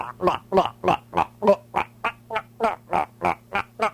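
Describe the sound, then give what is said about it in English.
A thick, gooey concoction said to contain boogers is poured into a bowl in a steady run of wet glugs, about a dozen evenly spaced gulping bursts over a low constant hum, with no voices. “Pour it into the bowl.”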